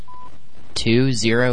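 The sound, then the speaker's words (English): A single short electronic beep, a steady mid-pitched tone of an automated phone ordering system prompting the caller to state a zip code, sounds briefly and fairly softly, followed after a pause by a person starting to speak. “At the tone, please state your zip code.”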